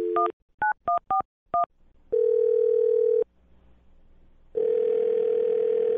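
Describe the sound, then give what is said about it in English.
A rapid run of five or six touch-tone keypad beeps as a woman's phone number is dialed, followed by a long, steady telephone tone, a brief near-silent pause, then the tone returning. Clear, with no voices. “All right, well, I'm going to dial her phone number right now and see if we can figure it out.”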